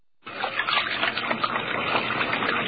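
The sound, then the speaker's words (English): A tap turns on at once and water runs steadily from a faucet for washing hands, a full splashing stream that continues without a break, with no voices. “There's a good reason why doctors and dentists are always washing their hands.”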